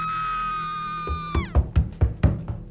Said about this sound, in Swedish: Så fort jag hade läst klart så hörde jag ett skrik från övervåningen.